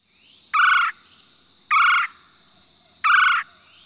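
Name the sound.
red-bellied woodpecker call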